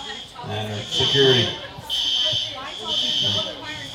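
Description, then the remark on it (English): A shrill fire alarm buzzer blares in repeated, evenly spaced pulses of roughly half a second each, steady and fairly loud, while people talk over it. “Well, they haven't managed to stop the sirens yet, but we're going to go ahead and push on.”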